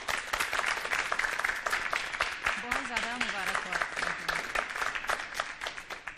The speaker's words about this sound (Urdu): تالیوں کے ساتھ استقبال.